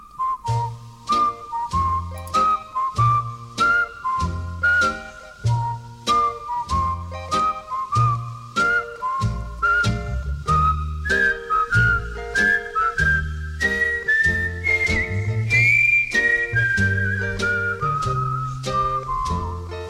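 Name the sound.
whistling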